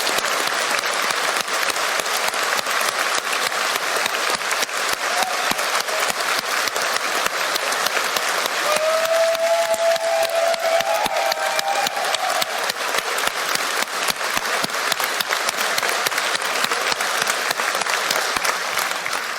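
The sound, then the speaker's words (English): A crowd applauds the event's volunteers, speakers and workshop hosts steadily for about twenty seconds, a dense, even wash of many hands clapping at constant loudness, with a few faint whistles or cheers rising briefly partway through. “Can everyone who hasn't put their hand in the air now applaud?”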